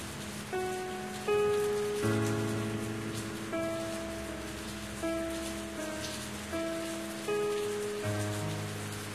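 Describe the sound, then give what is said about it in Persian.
Steady rain hisses softly throughout, blended with gentle sustained musical chords and notes that change every second or so, with no voices. “دوباره بارون منو هواییم کرد”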